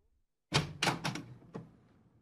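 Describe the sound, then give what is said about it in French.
The front door of a small white house is opened partway by a man of about forty: a sharp latch clunk followed by a few quick rattling knocks and a final click as it swings, all within about two seconds, with no voices. “Un homme d'une quarantaine d'années entr'ouvre la porte.”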